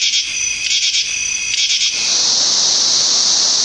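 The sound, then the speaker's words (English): A katydid chirps in loud, high-pitched pulsing bursts for about two seconds, then a steady, dense insect buzz takes over and continues evenly to the end. No voices. “The katydid begins making a chirping sound late in the afternoon and continues until late at night.”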